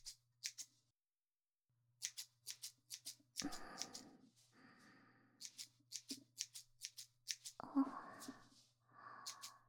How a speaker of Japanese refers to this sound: さて、すいた髪を別のハサミで整えてまいりますね。このように私が坊ちゃまの髪を切るのも15年を超えましたね。